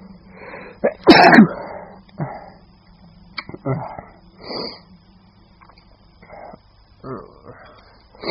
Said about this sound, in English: And now, my head hurts, my sinuses are killing me, and I feel like I'm gonna sneeze all the time.